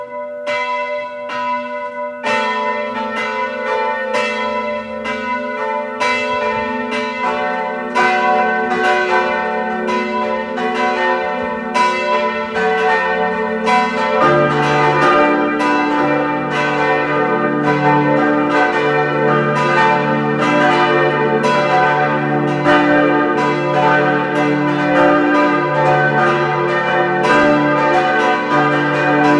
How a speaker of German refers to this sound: Es ist 12 Uhr. Sie hören die Glocken der Pfarrkirche Reichenfels in Kärnten.